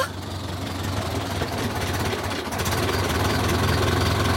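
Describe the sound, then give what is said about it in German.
The engine of a car that has been flagged down idles steadily, a continuous low rumble with a faint rhythmic throb and a broad mechanical hiss above it, holding an even loudness throughout with no one speaking. “Wir halten einen Wagen an”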